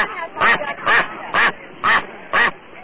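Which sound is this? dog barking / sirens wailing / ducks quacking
ducks quacking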